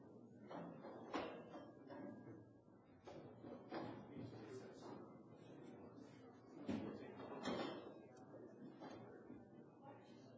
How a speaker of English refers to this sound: We just like to move chairs. We've got an extra seat here.